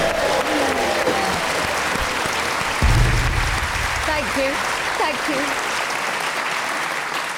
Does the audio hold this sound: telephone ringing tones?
no